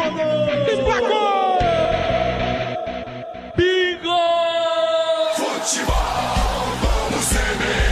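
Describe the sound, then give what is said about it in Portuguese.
A Futebol Globo CBN radio announcer bellows a long, drawn-out football goal shout, holding the note for several seconds with a brief break, over a roaring stadium crowd and a slight echo. “E o grito de gol que emociona gerações de torcedores.”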